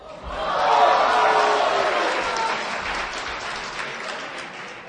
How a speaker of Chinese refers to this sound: 哎呀，这个掌声啊，是给您的。